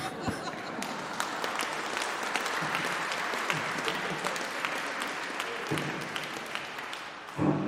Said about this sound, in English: Don't I get applause for that?